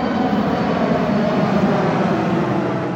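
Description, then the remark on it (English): A low-flying airplane roars over an outdoor amphitheater in a city park, its loud, steady engine rumble filling the open air and drowning out everything else for the full few seconds. “But when a plane flies low over the amphitheater, and I mean really low, all you hear is this.”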